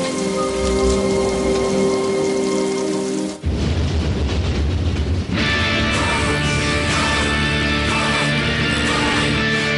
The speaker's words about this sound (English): I wish the rain would stop just once. It can't rain all the time.